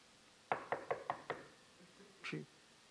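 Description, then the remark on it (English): Five quick, firm knocks on a door at 9 o'clock, in an even rhythm, clear against a quiet background, followed a moment later by a brief, softer sound. “But somebody knocked my door.”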